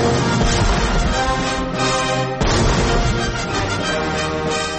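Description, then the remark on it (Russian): A full orchestra plays loudly and densely in Tchaikovsky's 1812 Overture, performed in America on July 4, Independence Day, while heavy cannon-like booms strike through the music, a couple of sharp blasts landing over the sustained brass and strings. “Каждый год 4 июля, в День независимости, Америка буквально сотрясается от грохота увертюры Чайковского, 1812 год.”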